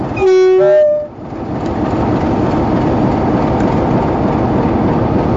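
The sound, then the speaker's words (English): A locomotive's brakes being applied, heard from track level in cold weather: a loud, steady rushing hiss and rumble that follows a short horn blast at the start and continues to the end. “That was the brakes being applied.”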